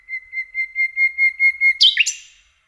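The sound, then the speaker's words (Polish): A nightingale sings a verse of about nine rapid, even whistled notes, ending abruptly in a louder, higher, rasping flourish, with no other sounds. “Na końcu każdej zwrotki występuje zwykle jedna najgłośniejsza, wysoka sylaba. Zwrotka sprawia przez to wrażenie, jakby została gwałtownie urwana.”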